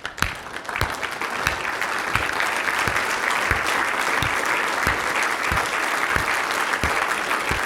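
A crowd bursts into sustained applause, dense clapping filling the room at a steady, loud level for several seconds with no one speaking over it.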